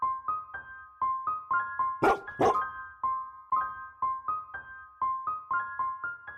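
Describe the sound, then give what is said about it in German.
Sled huskies bark and yelp in a rapid, steady stream of high, tonal calls, with a couple of harsher, louder barks bursting out midway. No one speaks. “Viele Lapplandurlauber möchten gern einmal ihren eigenen Hundeschlitten führen und damit querfeldein durch Eis und Schnee brettern.”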